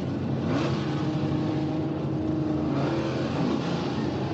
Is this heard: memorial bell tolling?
no